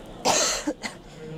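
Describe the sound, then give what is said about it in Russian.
Someone clears their throat in preparation for a meditation: one strong, raspy burst followed by a couple of shorter, softer catches, with nobody talking. “Пожалуйста, подготовьтесь. Прочистите горло.”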